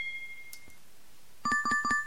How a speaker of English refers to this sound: Sound is pinging a glass.